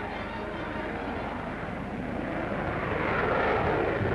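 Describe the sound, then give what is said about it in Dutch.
A jet aircraft roars steadily overhead as its crew reconnoitres the course before a speed record attempt, its broad engine noise building slightly louder toward the end as it passes low. “Voor de eigenlijke snelheidspoging verkennen ze de baan. Bij hun recordvlucht moeten ze op maximaal 100 meter hoogte vliegen.”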